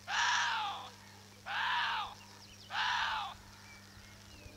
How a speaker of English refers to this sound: And on top of that, here is what a Chinese water deer sounds like.